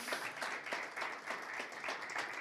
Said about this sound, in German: Das verdient vielleicht mal einen Applaus.